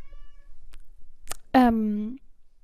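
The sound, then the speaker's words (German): A small cat lets out one clear, drawn-out, high meow, preceded by a faint higher mewing sound and a brief rustle, with no talking. “Ja, miau. Von dem kleinen Pups.”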